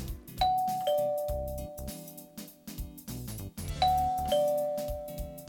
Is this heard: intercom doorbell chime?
yes